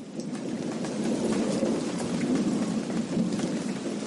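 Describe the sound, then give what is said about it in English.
Steady, heavy rain pours down on a hut in Soshanguve, South Africa, with a deep, continuous rumble of thunder rolling underneath, filling the scene evenly from start to finish with no voices. “Back in Cynthia Mohape's hut in Soshanguve, the rain and thunder endure.”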